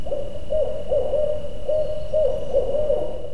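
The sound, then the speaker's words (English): A barred owl calls its rhythmic series of hooting notes, the distinctive call that goes "Who cooks for you?", clear over a steady low background hiss with no one talking. “The barred owl has a very distinctive call. That's the one that goes, "Who cooks for you?"”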